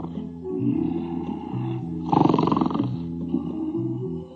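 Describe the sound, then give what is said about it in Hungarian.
Seals on an island by the sea at dawn bark and call from afar in a steady chorus of hoarse, honking cries, with one louder, harsher outburst in the middle. No one speaks. “A fókák messziről integettek és kiabáltak.”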